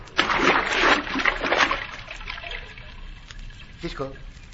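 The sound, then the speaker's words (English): A loud splash as a man dives into water to swim under it, followed by a couple of seconds of churning, settling water and a brief voice near the end. “But I'm going to have to swim under the water in case someone is watching from above.”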